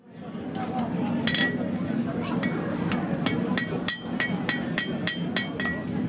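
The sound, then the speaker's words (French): A blacksmith's hammer strikes metal on an anvil in a forge during the Franche-Montagne horse festival, making all sorts of objects. Sharp bright clangs come in a quick, slightly irregular rhythm, roughly a dozen blows over a steady low rumble. “À coups de marteau sur l'enclume, il prépare toutes sortes d'objets.”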